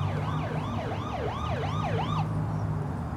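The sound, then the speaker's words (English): Emergency sirens from more ambulances and a police car arriving at a car crash wail in fast, rising-and-falling yelps over a steady low engine rumble, then cut off abruptly near the end. No one speaks. “More ambulances and a police car.”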